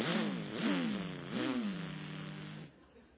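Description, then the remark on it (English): A voice imitates a lawnmower engine starting and running: three rising, revving surges of a buzzy, pitched drone, then a steady hum that cuts off abruptly near the end. “And I got my lawnmower.”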